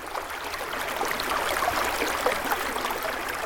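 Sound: flowing river water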